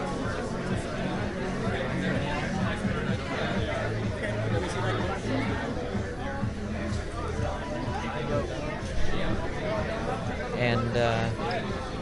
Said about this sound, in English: Making our way through the crowd.